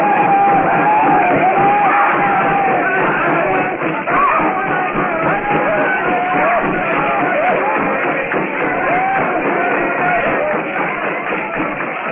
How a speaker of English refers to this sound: Blazing hut casts a lurid glow over the compound. The blacks leap and yell as they circle the fire trap.